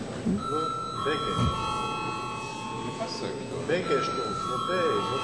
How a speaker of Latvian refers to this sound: Lūdzu zvanu.